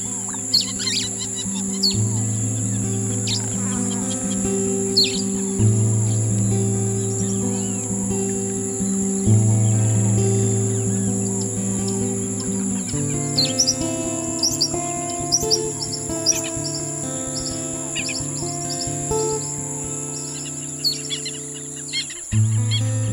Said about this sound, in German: Du stehst mitten im immergrünen Pflanzendickicht des Regenwaldes von Ecuador. Obwohl Tag ist, herrscht hier Dämmerung. Die Vögel veranstalten ein Konzert der Töne.